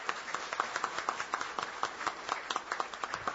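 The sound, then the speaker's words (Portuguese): An audience at a city council session applauds honorees, forensic experts present that evening. Many overlapping hand claps make a steady, sharp, irregular patter that holds at a moderate level throughout, with no voices over it. “Então, esses homens e mulheres que estão aqui também, eles merecem as nossas orações, merecem o nosso apoio, merecem toda a nossa honra, e eu quero pedir que vocês aplaudam também esses meus homenageados dessa noite.”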